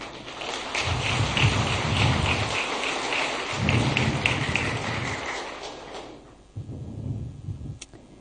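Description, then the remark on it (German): An audience claps for the worship team, a steady, dense, crackling wash of applause for about six seconds that dies down briefly, then picks up again more softly before trailing off. No one speaks. “Also ich finde, das ist mein Applaus wert.”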